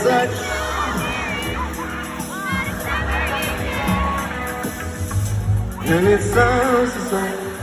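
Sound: concert crowd cheering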